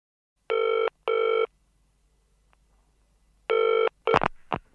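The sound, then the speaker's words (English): A telephone rings in a double-burst pattern, a pause, then a third ring, which is cut short by a brief clatter like a handset being picked up. The ringing is clear. “Sorry, I can't come to the phone right now. Please leave a message after the tone.”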